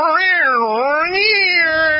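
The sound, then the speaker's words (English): A human voice imitates a Siamese cat's drawn-out yowl, one continuous wavering wail lasting about two seconds that rises and dips in pitch, loud with no talking. “I woke up in the middle of the night by a Siamese cat that lives down the street, which, of course, anyone who owns a Siamese cat know they don't have, they speak in fucking vowels, man.”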